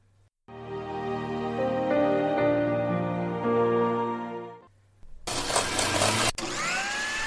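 A blender with Bluetooth earbuds inside hums steadily with a tonal whine for about four seconds, pauses briefly, then roars into a loud, harsh grinding with a short cut near the end.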